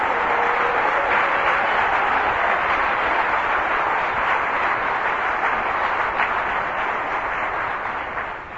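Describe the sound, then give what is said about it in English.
A large audience applauds steadily for Bill Perkins, Compass and the volunteers of Calvary Chapel, a dense wash of many hands clapping that holds at full strength for several seconds before starting to taper off at the end. “Why don't we just take a moment to give Bill Perkins and Compass and all the volunteers of Calvary Chapel a big round of applause.”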